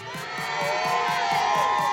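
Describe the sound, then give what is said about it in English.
A large roadside crowd, two or three deep along Ashbourne Road in Derby, England, cheers and shouts loudly and continuously as the Olympic torch relay approaches, the roar swelling slightly, with a steady rhythmic pulse, like clapping or a beat, running beneath the noise. “as I say, the crowd's two or three deep as far as I can see, all the way down Ashbourne Road.”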